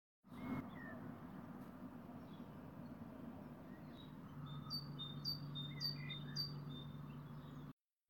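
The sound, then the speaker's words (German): Several birds sing and chirp together in a lively morning chorus, with repeated high whistled phrases over a steady low hum of background noise. “Der Morgenjubel der Vögel. Corona oder nicht, die singen ihr Konzert.”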